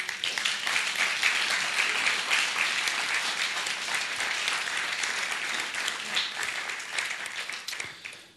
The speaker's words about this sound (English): We applaud you for your courage and for your faithfulness to God. And for your pursuit of him and of his presence, we applaud you. Why don't we just clap them?